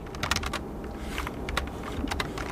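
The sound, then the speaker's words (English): Quick, uneven clicks of a woman who lives just outside Worthington tapping on her computer keyboard, moderately loud, with a steady low hum underneath and no voices. “Tapping on her keyboard, she says the problems with Frontier crop up when her husband also gets on his computer, or maybe a neighbor logs in.”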